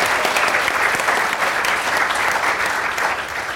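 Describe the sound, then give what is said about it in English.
The audience at the Science Gallery in Dublin claps steadily for a few seconds, a dense, even wash of applause that stays loud throughout with no voices on top. “Give yourselves a big warm of applause.”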